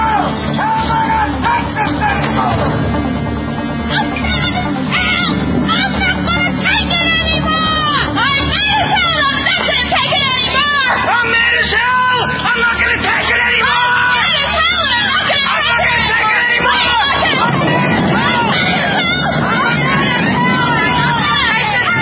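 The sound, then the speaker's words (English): A large crowd shouts and yells together in a continuous, loud roar of overlapping voices, with individual cries rising out of the din throughout. “Open it and stick your head out and yell and keep yelling.”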